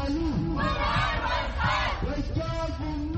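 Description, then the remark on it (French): Several dozen protesters in the Bari district of northern Khartoum, Sudan, shout and chant together, demanding the military free Prime Minister Abdallah Hamdok and restore civilian government; many voices rise and fall in loud, sustained waves with no pause across the few seconds. “Ils sont quelques dizaines dans le quartier de Bari, au nord de Khartoum, à crier leur frustration.”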